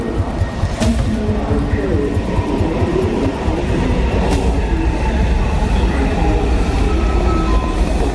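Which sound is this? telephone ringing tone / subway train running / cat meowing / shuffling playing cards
subway train running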